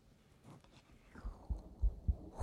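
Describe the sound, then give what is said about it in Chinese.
Soft rustling as clothing is rolled up gives way to deep, muffled thumps of a heartbeat picked up by a microphone pressed to the chest, several low beats in a steady rhythm, dull. “首先把衣服卷起来，再把麦克风贴上来，听一下，听一下。”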